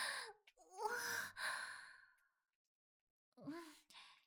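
Heavy, out-of-breath breathing from someone who has been carrying books: a run of loud, sighing exhales, a pause of silence, then two more breathy gasps.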